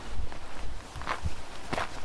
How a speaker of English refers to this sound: For instance, we can get a good idea of changes in terrain and landscape by listening to footsteps. Here I am at Mount Gosford in southeastern Quebec. Take a listen.